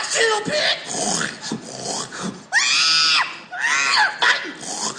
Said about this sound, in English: The screams, man.